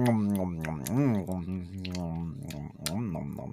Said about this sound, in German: Hilde schmatzt und ist zufrieden. Ja. Das war Hilde wohl sehr lecker gerade.